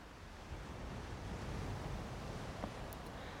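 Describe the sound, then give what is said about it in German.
Soft waves wash gently against a beach shoreline at midday in hot weather of about 30 degrees, making a steady, continuous hiss. A low rumble sits beneath and a faint breath of wind passes over; there are no voices. “Ich lausche den zarten Wellen, die sich langsam am Ufer auflösen.”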